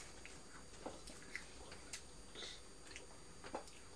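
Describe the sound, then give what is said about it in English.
Quiet chewing of an apple: a series of short, crisp crunches spaced irregularly about half a second apart, with soft wet mouth sounds between them and no talking. “You're chewing apple and I'm eating toast.”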